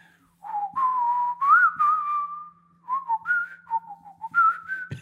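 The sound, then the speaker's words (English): A man whistles a slow, gliding hymn tune, holding long sustained notes in two phrases separated by a short pause, with a faint steady hum underneath. “He was whistling because he couldn't remember the words, but he kind of knew the tune.”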